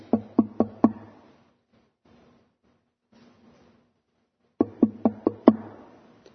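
Knocking on a door, loud: four quick raps, a pause of a few seconds, then a second series of five sharp knocks. No one speaks.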